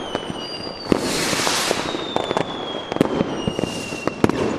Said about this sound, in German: So, damit ist die ganze Knallerei wieder verpufft.